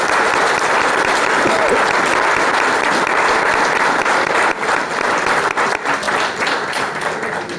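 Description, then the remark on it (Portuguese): Loud, sustained audience applause of dense, continuous clapping from a large crowd, holding steady before thinning slightly toward the end. “pedir un forte aplauso para Óscar e Melo”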